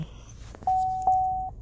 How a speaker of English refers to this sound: And sorry, my fucking phone.